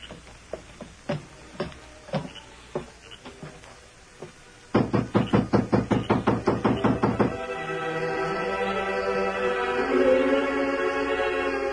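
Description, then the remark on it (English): Knocking on a ranch house door late at night: a few scattered, spaced raps, then a loud, fast, steady burst of about a dozen knocks, followed by a sustained humming tone with no talking. “Inside, when Miller heard the knocks.”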